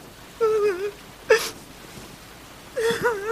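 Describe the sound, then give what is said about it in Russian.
Dogs whimpering at a kennel or shelter where people bring dogs for treatment: three high, wavering whines, a drawn-out one, a short yelp-like cry, then another quavering whine, with quiet pauses between them. “В питомнике. У меня собачки.”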